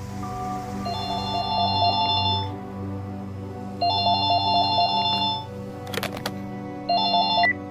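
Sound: mobile phone ringtone ringing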